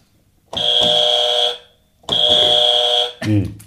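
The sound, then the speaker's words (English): A game buzzer is clicked twice, each a loud, harsh electronic buzz lasting about a second with a short pause between, and a voice briefly begins speaking right after the second buzz. “So I click the buzzer.”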